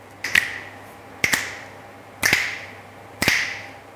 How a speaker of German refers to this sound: Okay, also ich schnipp's an.